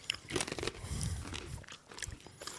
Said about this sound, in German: Das werden die Leute draußen sicher mengen, wenn wir jetzt da die Chips reinknispern.